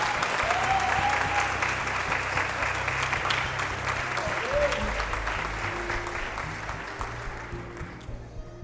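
Sustained audience applause for the evening's honourees, a dense wash of many hands clapping steadily for several seconds before gradually thinning and softening toward the end, with a faint murmur of voices underneath.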